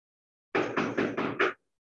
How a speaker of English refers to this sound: Knock on wood. Knock on wood. I felt it.